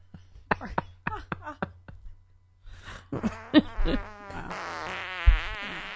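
A few short, sharp pops, then a long, loud, buzzing fart-like raspberry, rippling and sputtering for several seconds.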